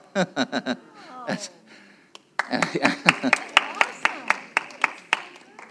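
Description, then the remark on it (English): Sharp, steady hand claps ring out in a fairly even rhythm, joined by a loose crowd clapping along, with voices talking and murmuring underneath. “That gets a better clap than miracles do sometimes.”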